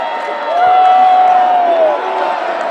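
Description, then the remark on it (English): A sold-out arena crowd in Washington, D.C. roars in a sustained cheer, going into the Sergio Garcia cheer, with a loud whistle-like tone rising above the noise for about a second and a half before the roar eases slightly. “There's D.C. for you, going right into the Sergio Garcia cheer.”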